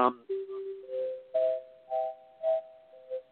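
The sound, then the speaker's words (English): A short sequence of closing chime tones signalling the end for the night, each note ringing, sustained and overlapping as the pitch steps upward, clear over about three seconds. “There's our chimes letting us know that we are finished for tonight, and we will see you next week.”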